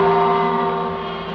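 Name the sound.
radio time signal gong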